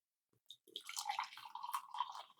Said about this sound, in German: manchmal blubbert der noch so, wenn man das unterdrückt. Ja, das war French Press Live. Aber das blubbert jetzt schön.